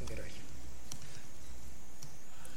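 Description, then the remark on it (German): A few sparse, faint clicks on a computer keyboard, typing commands, tapped out at irregular intervals over a quiet, low hum, with no one speaking. “Oh Gott, tippen geht heute nicht.”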